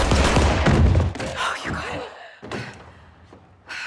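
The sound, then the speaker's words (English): Gunshots fired through a wall to the right of a door at a man on the other side: a loud, dense burst of heavy bangs at the start, followed by two sharper isolated shots separated by brief pauses. “You're gonna have to shoot him through the wall.”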